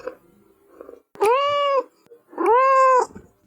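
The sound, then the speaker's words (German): Two drawn-out, high-pitched kitten meows with a clear harmonic, slightly rising-then-falling tone, each lasting about half a second, after a brief stretch of faint low rustling. “Drittens, Babykätzchen.”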